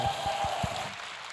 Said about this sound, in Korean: 사실 앵콜 할까요 여러분? 네, 앵콜 정말 원하신 박수 한번 다시 한번 쳐주시겠어요?